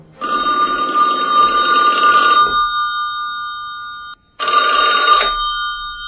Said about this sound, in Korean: 밤 12시가 넘을 무렵 김정일이 전화를 걸어왔다.